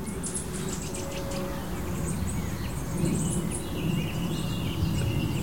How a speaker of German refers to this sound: Und da hört ihr im Hintergrund jetzt die Singdrossel.